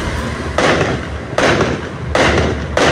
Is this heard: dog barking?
no